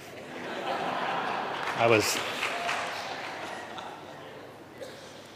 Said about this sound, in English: So thank you for that, and I'm glad we finally started clapping.